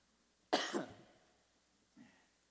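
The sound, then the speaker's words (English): One loud cough bursts out and trails off quickly, followed after a short pause by a much fainter little cough or throat sound. No one speaks. “I don't think I'm being punished because I had a cough.”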